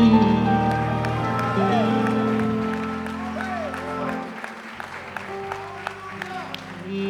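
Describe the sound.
An audience claps and shouts to God together, a dense, steady patter of many hands mixed with excited voices, while sustained keyboard or organ chords ring underneath throughout.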